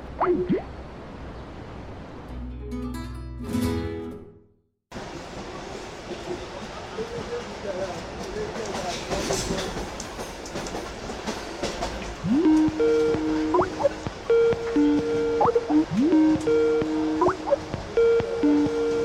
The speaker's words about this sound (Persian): هیچی، تو قطاریم، داریم از مشهد برمیگردیم تهران.